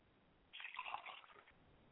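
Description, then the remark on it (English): Liquid is poured out as a libation to the south, in a brief, soft trickling splash that lasts about a second before trailing off into faint background hiss. No one speaks. “I pour libation from the south, and I say Ashe.”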